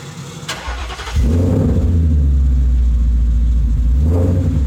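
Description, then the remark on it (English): A truck's deep exhaust rumbles loud, building sharply after a brief start and holding a steady, throaty drone with rising revs as it drives a course, with no talking. “That exhaust note never gets old.”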